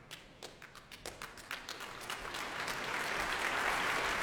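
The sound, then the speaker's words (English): Audience applause in a completely packed Royal Albert Hall at the BBC Proms as Carmine Lowry, leader of the London Symphony Orchestra, walks on stage, starting as scattered individual claps and quickly swelling into dense, sustained clapping from a big crowd, with no talking. “The spirit of delight currently making his way on stage is Carmine Lowry, the leader of the London Symphony Orchestra tonight, taking applause here at a completely packed Royal Albert Hall.”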